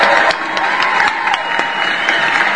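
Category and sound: crowd, applause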